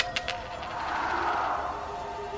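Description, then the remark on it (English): A quarter coin that was standing on edge is knocked over with a couple of quick metallic clicks, then rattles and whirs as it spins down on a hard surface, with no voices. “I had that other quarter standing up all day, and nobody knocked it over till now.”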